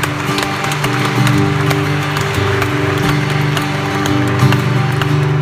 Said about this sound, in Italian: applauso al nostro Signore Gesù.